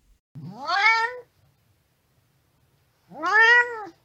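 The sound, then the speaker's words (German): A cat meows twice, heard while someone steps out of a fire engine, with a long pause between two drawn-out, rising-then-falling cries. The meows are clear, with no other sounds around them. “Du steigst ganz vorsichtig zum Feuerwehrauto aus und während du aussteigst, hörst du bereits ein Büsi am Miauen.”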